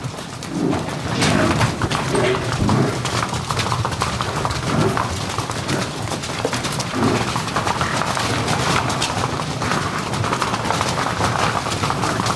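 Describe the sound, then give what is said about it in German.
A herd of buffalo thunders past after a gate is opened, countless hooves drumming in a dense, continuous rumble that stays loud for the whole stretch, with no voices. “Und die haben auch den sogenannten Herdentrieb, die rennen, wenn alle rennen, rennt man eben mit, ne? Ja, wir haben den Herdentrieb ja auch. Ne? Und ja. Das ist bei den Büffeln sehr ausgeprägt, dieser Herdentrieb”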